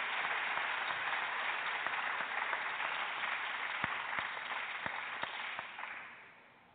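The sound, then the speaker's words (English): A crowd claps steadily in a dense wash of applause for Joe Gibbs, owner of the NASCAR championship team Joe Gibbs Racing. A few sharper individual claps stand out near the end before it fades away. “We are excited to have somebody that we all personally know as Coach, please give a round of applause for Joe Gibbs, owner of the NASCAR Championship Team, Joe Gibbs Racing.”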